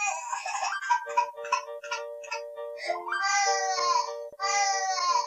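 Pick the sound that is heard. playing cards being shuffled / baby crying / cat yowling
baby crying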